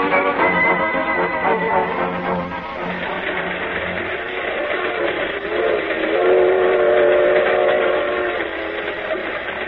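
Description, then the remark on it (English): A highball freight train from Kansas City rumbles along steadily near the outskirts of Des Moines, its dense rolling clatter and low mechanical roar filling the whole clip, with sustained whistle-like tones sounding over the noise partway through. “When's this here freight train get to Des Moines?”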